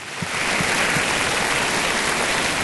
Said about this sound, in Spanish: Mira, además la aplauden ya, espérate.